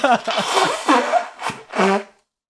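A loud nose blow in several rough, airy bursts, the last one turning into a buzzy, honking tone before it cuts off into silence.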